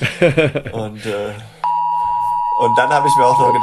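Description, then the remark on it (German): A steady electronic alert tone from a mobile phone, set off by the 11 o'clock test signal for sirens, switches on abruptly after a man's speech and holds continuously, loud and even, while talking resumes over it near the end. “jetzt hört ihr gerade den 11 Uhr Signalton.”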